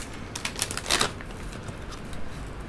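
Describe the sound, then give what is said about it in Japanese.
Crinkling and tearing of a plastic bag of Cranberries Osmotic dried cranberries being pulled open, a cluster of sharp rasping bursts early on, then softer rustling of the packaging with no voices. “クランベリーズオスモティックをちょっと開けてもいいですかね。”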